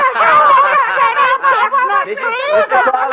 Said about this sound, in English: The crowd is screaming, having fun.